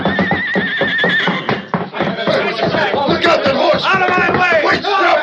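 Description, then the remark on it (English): The horse Silver neighs and whinnies loudly, its wavering cries rising over a busy scuffle of hooves, movement and shouting voices as riders mount and urge their horses on, with another shrill whinny near the end. “Jump to your own horse, Tonto.”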